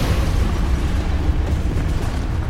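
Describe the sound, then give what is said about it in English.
A building shattering and collapsing after a tail smashes through its bottom floor: a loud, sustained crashing rumble heavy in the low end, rolling steadily for a couple of seconds with no voices. “And it shatters, collapses.”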